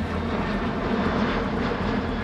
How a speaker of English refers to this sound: An unidentified aircraft is flying low over Egyptian airspace. The only clue to its presence is the distinct, shrill noise of the engines. A trained ear would recognize it instantly.